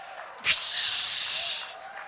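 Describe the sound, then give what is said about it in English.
A single sustained hiss from a human voice, imitating a sizzle, starts abruptly and holds steady for about a second before fading out. It is fairly loud, with no other sounds. “Sizzle, sizzle, sizzle.”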